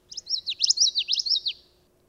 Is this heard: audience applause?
no